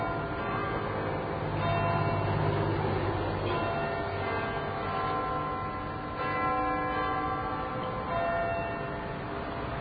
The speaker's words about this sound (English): Okay, I think we're under a minute for the chimes of Big Ben to begin. And this is a sound that's heard throughout the world, and I guess it represents...